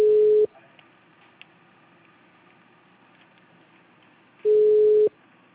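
A telephone tone signal: two loud, steady electronic beeps of the same pitch, about half a second each, spaced roughly four seconds apart with faint hiss in between.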